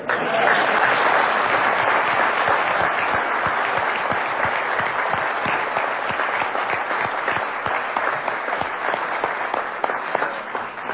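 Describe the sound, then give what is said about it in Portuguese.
An audience applauds steadily for the whole stretch, a dense crackle of many hands clapping at an even, fairly loud level that eases slightly toward the end. “Diante do aplauso, eu devia até parar por aqui, porque tá tão bom.”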